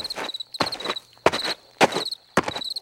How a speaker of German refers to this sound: Der Bürgermeister kam mit großen Schritten über die Wiese und stellte sich genau vor das Plakat.